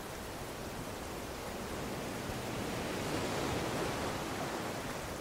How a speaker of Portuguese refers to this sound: É, pessoal, eu acho que a chuva não vai passar mesmo, né? Mas a gente conseguiu ter uma boa conversa aqui nessa varanda, olhando essa chuva, sentindo o quão gostoso é a chuva caindo, tanto pelo barulhinho, quanto pelo frescor que ela traz.